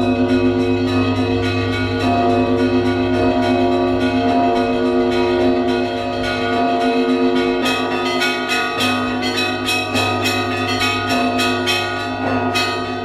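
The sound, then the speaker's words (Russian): Church bells peal loudly and continuously, several tones ringing together, with quick rhythmic strikes growing busier toward the end. No one speaks. “Встречаем выносной вопрос под звон колоколов.”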